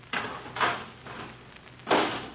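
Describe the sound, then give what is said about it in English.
A garbage can lid is fitted onto a can with a few clattering bumps and knocks, irregularly spaced, moderately loud, with no voices. “Okay, put the lid on.”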